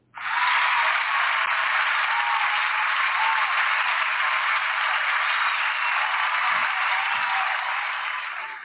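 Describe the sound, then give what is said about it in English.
Sustained applause from a crowd honouring the life and legacy of Zuleika Mandela, granddaughter of Nelson Mandela: a steady dense wash of many hands clapping that holds at an even loudness for several seconds before tapering slightly at the end, with no voices. “So let's just give an applaud for the life and the legacy of Zuleika Mandela.”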